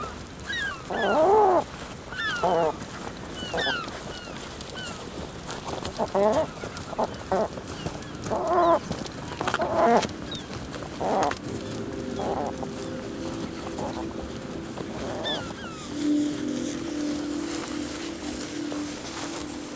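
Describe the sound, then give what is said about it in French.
A bird calls out repeatedly in loud, harsh, agitated squawks while being handled, with short pauses between bursts and some rustling and handling noise around it. “Là il gueule parce que il est inquiet, quoi.”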